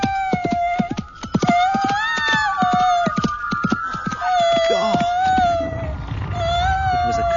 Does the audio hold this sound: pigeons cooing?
no